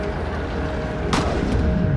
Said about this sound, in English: She doesn't know it yet, but that was a gunshot. It missed its target, but the second one won't.